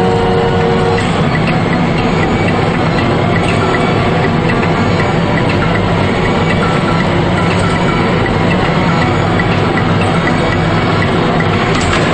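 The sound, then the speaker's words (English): A loud, steady mechanical rumble and whir of a large industrial elevator riding up slowly after its doors close, droning continuously with faint rattles throughout, unbroken, with no voices. “The elevator doors close, and they ride up slowly, staring across the car at one another without saying anything.”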